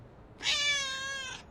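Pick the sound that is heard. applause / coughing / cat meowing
cat meowing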